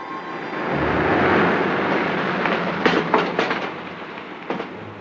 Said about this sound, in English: The car passes.